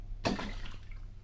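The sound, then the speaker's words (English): A single heavy splash as a reverse gear out of an Essex is dropped into a witch's cauldron of liquid, a sudden burst followed by a short sloshing fade, with a low steady hum underneath. “A reverse gear out of an Essex. I'll drop that in.”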